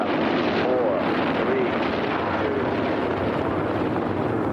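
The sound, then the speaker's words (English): Rocket engines rumble before launch in a loud, steady roar that fills the whole clip without letting up, a dense wall of noise with faint tonal whines flickering briefly beneath it. “The engines are on.”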